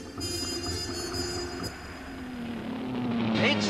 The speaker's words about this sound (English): A race car.